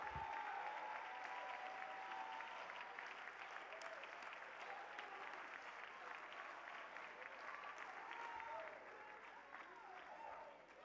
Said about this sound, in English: Come on, clap your hands to the Lord.